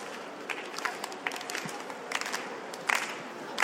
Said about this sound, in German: Ich würde euch dafür einmal ganz kurz bitten, jetzt einfach einmal zu klatschen. Langsam im Rhythmus.